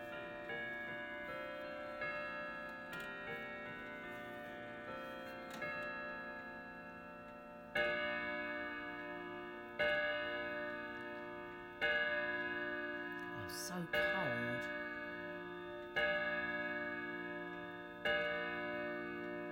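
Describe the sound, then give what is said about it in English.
A clock ticks steadily throughout, with resonant ringing tones struck about every two seconds and slowly fading between strikes. No one speaks. “Is he going to chime on the hour now?”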